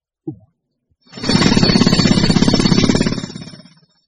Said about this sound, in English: A drill.